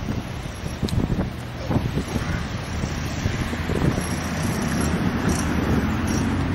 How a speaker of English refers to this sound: It's quite windy, it's quite Atlantic here. It's not very warm, the Mediterranean is three times as hot as here.